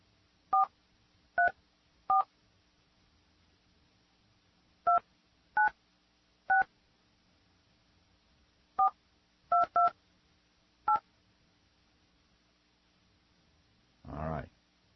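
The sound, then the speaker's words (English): A phone number being dialed on an X-Lite softphone: about eleven short, clear touch-tone beeps in uneven clusters over quiet background, followed by a brief burst of noisier sound at the end. No one speaks. “Our X-Lite phone doesn't seem to be working, so we'll try it again here.”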